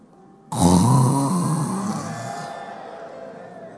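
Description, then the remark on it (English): A voice imitates a heavy snore: one long, loud, raspy breath that starts abruptly and rattles before slowly fading away. “Some of us are breathing more than necessary.”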